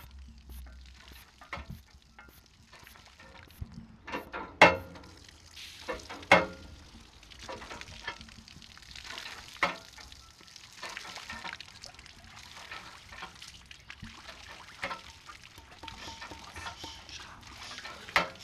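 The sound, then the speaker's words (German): Water flowing out and splashing, like at a mill but smaller, patters irregularly, a steady crackling wash broken by sharper splashy bursts, continuing for the whole stretch with no voices. “Es ist quietschen und dann wird das Wasser plätschern.”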